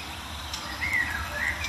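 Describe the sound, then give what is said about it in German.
An excited Eurasian blackcap calls with a quick run of short, high, bright notes in the second half, fairly soft over a steady outdoor hiss and low rumble, with no voices. “Neben mir ist auch eine aufgeregte Mönchsgrasmücke.”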